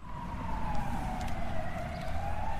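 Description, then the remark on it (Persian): An ambulance siren wails steadily over low traffic rumble, its tone gliding slowly down and back up, fairly loud and continuous with no voices; two cream-coloured ambulances arriving at a village health centre by the road. “آمبولانس ها آژیر می کشیدند و می آمدند.”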